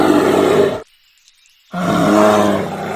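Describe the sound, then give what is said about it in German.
A black bear growls in two deep, rumbling bursts in the forests of British Columbia, separated by a short silent pause, with no talking. “Und wirklich angenehmer als der Grizzly vorhin klingen die auch nicht.”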